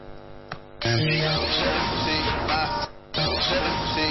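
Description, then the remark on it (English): A loud white noise hit sample, added as a hit in a song being produced, slams in, washes over a musical backing for about two seconds, briefly drops out, then surges back in just as strongly. “Okay, that's too much white noise.”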